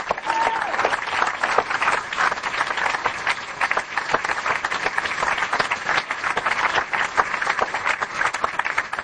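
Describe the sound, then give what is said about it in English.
Steady applause from a crowd, many hands clapping in a dense, even patter that holds at a fairly loud level for the whole stretch without a break. “A little applause.”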